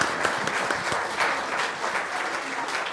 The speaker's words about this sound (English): Maybe just another round of applause for them.